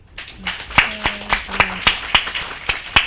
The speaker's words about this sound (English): I want to go ahead and wrap this up with a round of applause for our panelists.